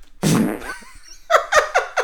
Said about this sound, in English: I don't know why the fart makes you laugh so much.